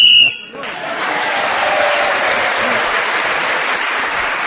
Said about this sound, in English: So, Paul Merton kept going for a number of seconds until the whistle went, gained that extra point for doing so, and he's equal in the lead with Clement Freud at the end of that round.